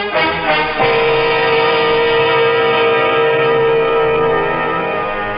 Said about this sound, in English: I stood rooted to the cabin floor, listening to the melancholy sound of the ship's whistle, warning the seas ahead that we were on our way, heading straight for troubled waters.